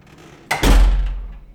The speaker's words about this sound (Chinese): 喂，你干嘛把门关了？喂，没听见吗？我在跟你说话呢，干嘛关门？等等，你是在锁门吗？你竟然把门反锁了，有点不对劲啊！